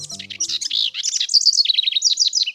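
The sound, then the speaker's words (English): A house wren sings from deep inside a thicket, a rapid, bubbling cascade of high chattering notes, then a run of quick repeated trills, with faint low tones underneath at the very start. “A house wren sings from deep inside a thicket.”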